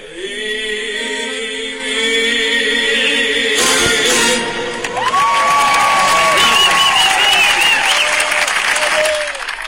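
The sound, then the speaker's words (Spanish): A large audience at a singer's performance at the Teatro del Silencio bursts into sustained applause and cheering after a sung note fades, a dense wash of clapping with scattered shouts and whistles rising over it. “Ahí les dejé hasta los aplausos.”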